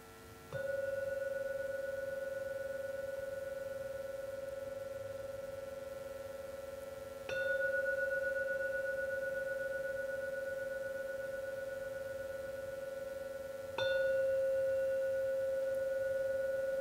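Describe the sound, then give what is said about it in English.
A bell is struck three times, about seven seconds apart, each strike ringing out in a clear, steady mid-pitched tone that sustains and overlaps into the next. No voices are heard. “Now ring the bell 3 times.”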